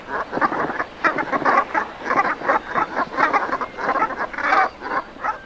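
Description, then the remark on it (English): A flock of Brent geese at a high-tide roost on an estuary giving low, throaty brrp calls, many overlapping in a steady rolling chatter, moderately loud with no one speaking. “You know, the brrp of the Brent geese, yeah.”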